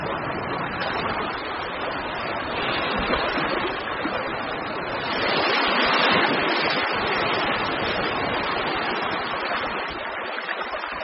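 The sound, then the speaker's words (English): Cool, oxygenated sea water rushes steadily back over a reef, a continuous hissing wash that swells louder midway before settling again. It is fairly loud, with no voices. “When the sea returns, it brings cool, oxygenated water back to the reef.”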